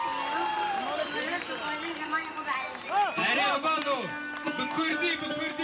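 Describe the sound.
A large crowd of Kurds at a rap concert in Diyarbakir, southeastern Turkey, sings along with the rapper in a loud, dense chorus of many voices, with rising and falling melodic lines over a steady roar of cheering.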